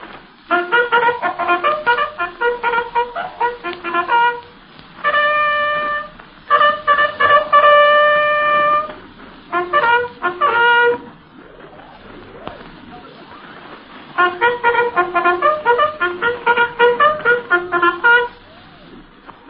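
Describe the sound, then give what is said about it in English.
A bugler of the 171st Infantry sounds Cessez-le-feu, the ceasefire call, then the other calls he gave from the running board of a German car on the night of November 7th, 1918. The bugle plays loud and alone, with bright brassy notes in several phrases: quick repeated tones, then longer held notes, pausing between bursts. “First he will sound Cessez-le-feu, the ceasefire. Then he will blow the other calls he gave from the running board of the German car that night of November 7th, 1918.”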